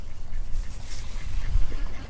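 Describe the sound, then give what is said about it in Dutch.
Ducks quacking outdoors against a steady low rumble of wind or ambient noise, the calls fairly faint and scattered rather than rhythmic, with no one speaking. “Kijk eens, zelfs de eenden wennen aan de naam Jaapie.”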